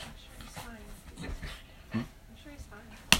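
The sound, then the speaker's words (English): A dog that is about to be taken outside pants in quick, breathy bursts and lets out soft, high whimpers, ending with a sharp short yelp-like sound. A low voice murmurs underneath. “I better take this dog outside, hey?”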